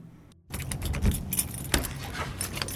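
Keys jangle and scrape in the lock of a pastry shop's back door before 6 in the morning, followed by a clunk as the door is unlocked and pushed open, with a low rumble underneath. No one speaks.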